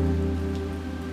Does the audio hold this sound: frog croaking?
no